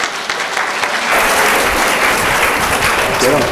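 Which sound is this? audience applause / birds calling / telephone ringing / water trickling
audience applause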